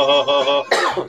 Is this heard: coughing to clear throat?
yes